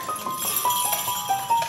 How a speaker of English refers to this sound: The horses love me, though. They do. They're always shaking their bells at me. It's very loving.